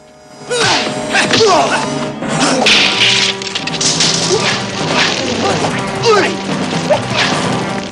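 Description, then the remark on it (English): A loud fight scene with a rapid run of sharp whacks and thwacks as Williams kicks and Han blocks with his left hand, quick whooshing swipes, and pained grunts from Williams between the blows. “Williams kicks, Han blocks with his left hand, and Williams grimaces in pain.”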